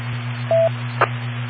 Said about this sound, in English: I heard the other station, did you want to let him go? Yeah, wait for the beeps and you got it